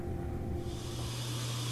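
refrigerator humming

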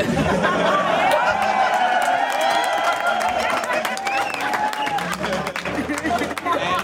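crowd cheering and applauding

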